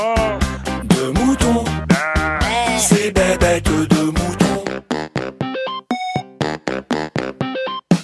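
Repeated wavering sheep bleats ring out over a busy, rhythmic musical jingle, fairly loud, with short choppy bursts toward the end.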